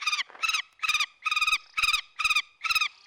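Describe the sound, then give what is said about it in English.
Birds of prey, falcons and hawks in the falconry of a castle heritage park, call in a steady run of about seven loud, harsh, ringing cries in quick succession, with no talking over them. “we're here at this special castle and I can hear lots of exotic birds of prey.”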